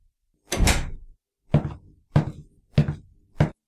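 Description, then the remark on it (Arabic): A door swings shut with a broad, heavy thud, followed by four shorter, evenly spaced bangs of similar loudness. No voices are heard. “أقفل الدفة تدخل عينه الريح منه.”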